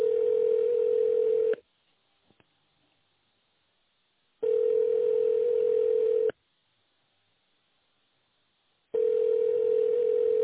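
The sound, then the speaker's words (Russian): A telephone ringback tone sounds three times, each steady, mid-pitched hum lasting about a second and a half, separated by longer silent gaps. No one speaks. “Продолжаю вызов. Оставайтесь на линии.”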